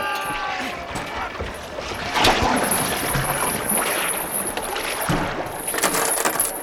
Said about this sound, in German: Sieh, der Krake ist tot. Er rutscht ins Wasser zurück.